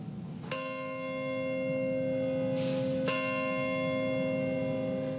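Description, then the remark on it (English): A large bell tolls twice, slow and resonant, each strike leaving a long ringing hum that lingers and blends with the next over a quiet outdoor background, at a memorial held on a Monday for the victims of the September 11th, 2001 terror attacks. “Memorials were held Monday to remember the victims of the terror attacks of September 11th, 2001, including a somber ritual that included the tolling of bells.”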